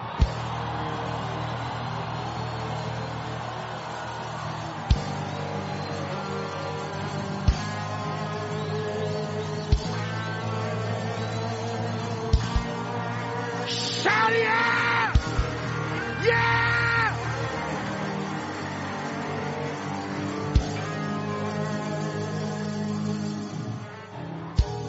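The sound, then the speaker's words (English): A large crowd, told by a preacher to open their mouths and scream, yells, whoops and screams together in a sustained, loud roar lasting the whole stretch, with brighter surges of shrieking partway through and sharp claps or thumps scattered across it. “Now open up your mouth and scream.”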